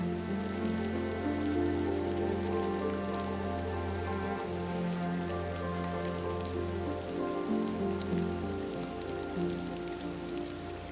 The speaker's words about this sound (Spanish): Los peces de colores naranjas, rojos y blancos nadan con movimientos suaves, casi como si danzaran tranquilamente al compás de la lluvia, fluyendo con el movimiento natural de la vida.